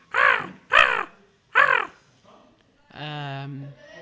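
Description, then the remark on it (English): A person imitates a crow with their voice, giving three loud, harsh caws in a quick uneven rhythm, followed by a sustained nasal vocal tone. Clear, with no other sounds. “I can speak crow.”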